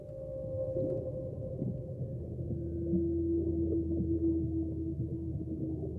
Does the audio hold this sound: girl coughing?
no